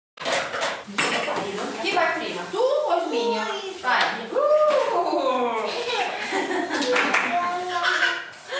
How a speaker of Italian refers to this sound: Alle 9 il centro è già animato dalle prime attività della giornata. Le voci che sentite sono quelle dei bimbi che frequentano il gruppo di gioco Il Mondo di Amélie.